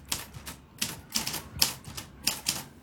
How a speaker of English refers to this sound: And my greatest joy is using this typewriter.